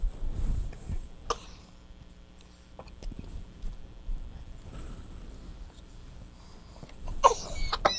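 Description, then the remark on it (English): Two short, sharp sneezes, one early and a louder one near the end, separated by quiet stretches with faint background shuffling and no talking. “God bless you. God bless you.”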